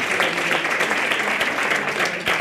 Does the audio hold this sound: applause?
yes